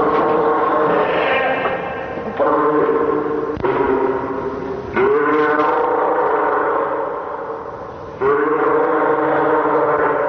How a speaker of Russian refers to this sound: А это подает голос морской котик.